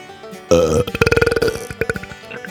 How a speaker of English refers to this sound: I reward them with the dreaded Under Country Music News Wet Belch of the Week